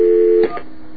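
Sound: telephone keypad dialing tones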